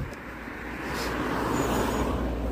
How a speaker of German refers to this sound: Ein Auto.